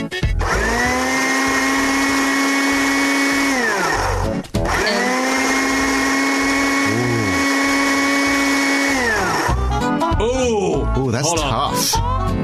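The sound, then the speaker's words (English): A blender whirs loudly at a steady, high-pitched motor pitch in two long bursts separated by a brief stop, followed by a few seconds of people talking. “That, my friends, is a blender.”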